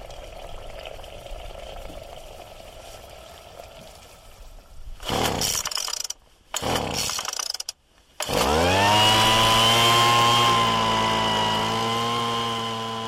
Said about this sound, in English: Find a team from Bangor in North Wales using an inverted leaf blower to suck insects out of the grass.